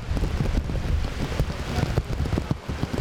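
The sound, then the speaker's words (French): Heavy rain with strong wind pours down steadily in Port-au-Prince, Haiti, a dense hiss of drops pattering on surfaces with a constant, loud roar and no voices. “Et dans Port-au-Prince, dans le moment où on a parlé à la, c'est Kounia la pluie a dit la vini et la vini bien fort avec un pile vent.”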